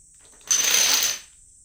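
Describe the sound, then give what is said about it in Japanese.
A quick, dense rattle of dominoes clattering over one another as they topple in a chain, lasting under a second and fairly loud, then stopping abruptly. No voices are heard. “今してるのがドミノ倒し。”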